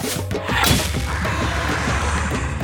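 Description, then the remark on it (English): In a valley, a warrior's arrow whooshes loose and strikes a dark creature with a heavy thwack, followed by a dense, rumbling crash as the creature falls to the ground. It is loud. “Then, when he had a sense of its speed, he released the arrow.”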